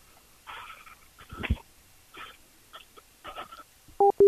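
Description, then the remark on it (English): A phone call ends with a couple of short, loud electronic beeps as the other party hangs up, following a stretch of muffled, garbled vocal-like noises. “That made him hang up.”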